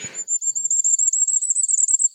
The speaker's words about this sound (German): Ich spiele noch einmal für euch das Sommergoldhähnchen zum Abschluss ein. Du kneifst die Augen zusammen, das ist wirklich laut. Sehr laut.